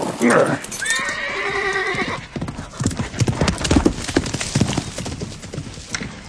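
A horse lets out a loud, wavering whinny, followed by a steady run of hooves clip-clopping in an uneven, brisk rhythm for several seconds.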